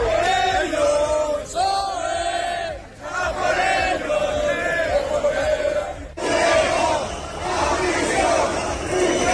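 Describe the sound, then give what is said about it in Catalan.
A loud protest crowd with Spanish flags at the PSOE headquarters shouts and chants together in rough unison, including shouts against Carles Puigdemont, voices rising and falling in a steady rhythm, with a brief lull before the chanting swells again into a noisier roar. “S'hi han pogut veure banderes espanyoles, una pancarta que deia Pedro Sánchez a la presó, i s'hi han sentit crits diversos, per exemple, contra Carles Puigdemont.”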